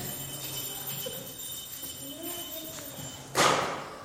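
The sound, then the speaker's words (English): One sharp, bright hammer strike on a stone that someone is trying to break rings out near the end, after several seconds of quiet background murmur and low hum. “So how have you got on with hammering the stone?”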